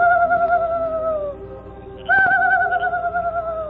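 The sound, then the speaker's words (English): The Lone Ranger imitates a night bird's call as a signal on reaching a camp at night: two long, steady cooing hoots, each sliding gently downward in pitch, separated by a brief pause. The calls are fairly loud over a low background hum. “He signaled with an imitation of a night bird's call.”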